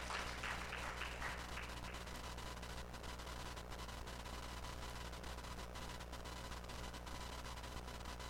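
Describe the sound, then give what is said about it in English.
A crowd claps steadily for several seconds, giving a hand clap for the Lord, a quiet, dense wash of many hands with no voices over it, holding at an even level before it gradually thins out. “Come on, somebody give the Lord a hand clap if you know that God has a future for your life.”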